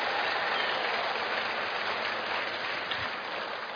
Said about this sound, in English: So, if you're a married couple, you can clap for them one more time if you want to.